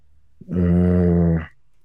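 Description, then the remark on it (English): A low, steady, buzzing drone from construction work starts abruptly, holds an even pitch for about a second, then cuts off, with no voices over it. “I hope everybody can hear the great construction we got going on back here.”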